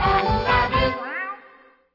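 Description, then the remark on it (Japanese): A kitten gives a high, drawn-out meow, fairly loud, its pitch wavering before it fades away over about two seconds. “子犬、子猫、子犬、子猫。”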